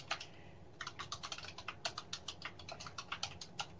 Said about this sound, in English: Hold on, folks. I'm typing him a little note.